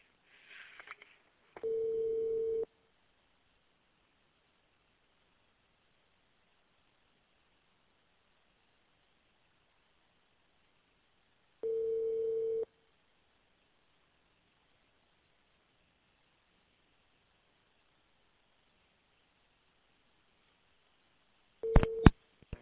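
A telephone call rings through the earpiece: two steady ringback tones about ten seconds apart over quiet line hiss, then brief clicks and beeps as the call connects.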